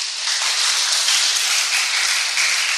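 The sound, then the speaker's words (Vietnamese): A crowd breaks into steady applause, many hands clapping together in a dense, sustained wash of sound that stays fairly loud and even for a few seconds, with no one speaking. “À, đẹp trai hết, đẹp nào cũng dễ thương, thông minh hết, xin tròn tràng pháo tay coi.”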